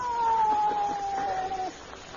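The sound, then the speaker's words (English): A single drawn-out meow from a cat named Sweet Alice, being called to jump up on a porch swing, steady and slightly falling in pitch, lasting well over a second before stopping abruptly, with quiet background afterward. “Hey, kitty, kitty, kitty.”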